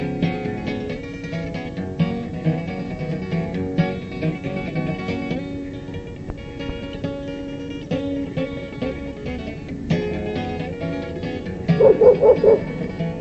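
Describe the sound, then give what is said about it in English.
A very vocal dog barks and yips repeatedly while a musician plays a song, over steady instrumental music, its barks fairly loud, with a quick burst of several sharp barks near the end. “These things always happen when I play. Airplanes buzz me, dogs bark. It's a very vocal dog.”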